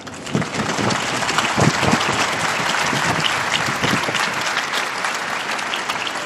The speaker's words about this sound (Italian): Un applauso alla nuova beata.